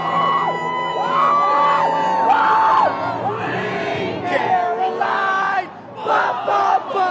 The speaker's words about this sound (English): A duck boat rolling rally, this time to celebrate a World Series title for the Red Sox. WBUR's Lynn Joliker was in the crowd today as fans got to cheer on their favorite players.